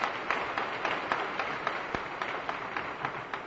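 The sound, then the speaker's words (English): A church audience applauds steadily during a sermon, a dense wash of many hands clapping at once with a few sharper individual claps standing out, holding an even level without voices for the whole stretch. “That is why Paul, go ahead and clap. It's worth clapping for.”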